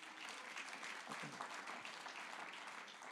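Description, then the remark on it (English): A church audience claps steadily for the worship team in a dense wash of applause that fills the whole stretch, many people responding together at a consistent, fairly strong level. “You can applaud them if you like.”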